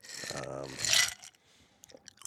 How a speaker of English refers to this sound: Luke's gonna complain about that ice noise.